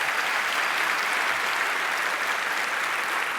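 Sustained applause from an audience, a dense, even wash of many hands clapping at steady loudness throughout, with no voices standing out.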